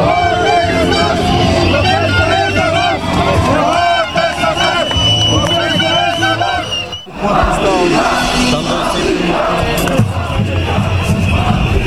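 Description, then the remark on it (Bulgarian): A large crowd of protesters on a street march that started from Orlov Most and the Ministry of Economy and Energy chants and shouts together in rhythmic bursts, loud and continuous, with a brief drop around the middle before the massed voices surge back. “Бързо редиците от протестиращи нараснаха и започнаха типичните за такива прояви скандирания.”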